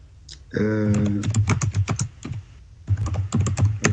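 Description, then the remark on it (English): Quick bursts of computer keyboard typing, sharp clicking keystrokes tapping in an irregular rhythm with a short pause midway. A brief hummed voice sound overlaps the start. “Somebody's typing.”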